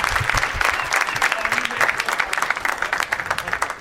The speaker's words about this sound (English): How about a round of applause for all these amazing name tags? You guys make it so hard to pick.